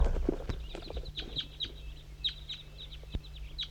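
flock of birds calling

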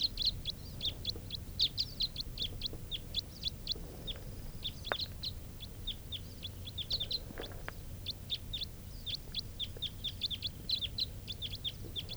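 crossbill calls

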